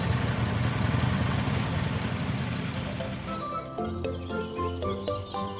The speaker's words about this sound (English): Colorful cars are driving along the road. And this is a scooter. And an SUV. They are racing. The Jeep pulls forward, but the scooter draws ahead of it.